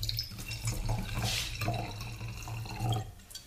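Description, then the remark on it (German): Schilcher wine pours into a glass in a steady, gurgling trickle with a low rumbling undertone and brief brighter splashes, lasting a few seconds with no voices. “Wie der Schilcher einschillert ins Glas.”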